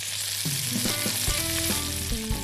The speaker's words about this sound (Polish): Gdy widzimy, że skórka na pomidorach lekko się marszczy, możemy je lekko docisnąć do patelni i wrzucić wcześniej pokrojoną cebulę. Cebulę razem z pomidorkami smażymy do lekkiego jej zarumienienia.